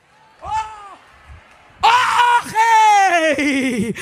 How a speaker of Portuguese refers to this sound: De dentro da cova se ouve um grito.